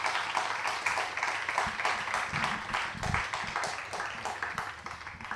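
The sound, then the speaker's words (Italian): A crowd applauds for Maria Edgarda at an evening event of the Sherwood Festival, many hands clapping in a dense, continuous patter that stays fairly even in loudness for several seconds, with a few sharper individual claps standing out. “E io vorrei che facessimo un applauso a Maria Edgarda, che è vittima di una misura fascista e che non può essere qui con noi stasera.”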